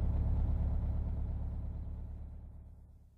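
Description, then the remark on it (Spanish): A bus engine rumbles, a deep low drone that slowly fades and settles as the bus pulls in at a bus stop, with no voices present. “¿A qué hora va a pasar el autobús? El horario dice que pasa cada 10 minutos. ¡Allí viene!”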